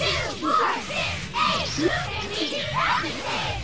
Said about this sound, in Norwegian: Og ikke minst Charlie and his groupies, en amerikansk fotballspiller med cheerleaders som roper ting som det her.